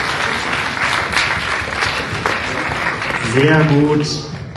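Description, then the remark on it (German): An audience at a film event applauds a guest who correctly guessed the film Battle Royale, a dense wash of clapping that holds at an even level, and toward the end a man's voice starts talking over the fading applause. “Es ist Battle Royale, korrekt, einmal Applaus und kommen wir nach vorne.”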